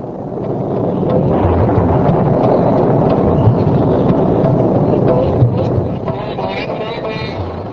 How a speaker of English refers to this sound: Then the rainy season began, giving life and sustenance to all living beings. The sky began to rumble with thunder, and lightning flashed on the horizon.